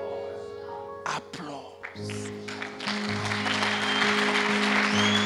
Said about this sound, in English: Do you know why? Do you know why we applaud you? It's because we know you had to press so many times, in so many ways.